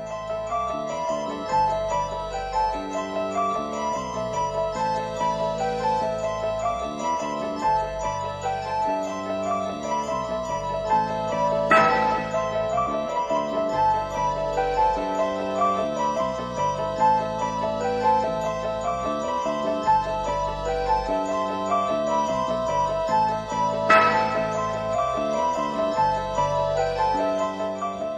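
An eerie, minimalist instrumental theme from the horror film The Exorcist loops a repeating pattern of chiming, bell-like keyboard notes at a steady pace, with a low sustained bass beneath and a brighter accent roughly every twelve seconds.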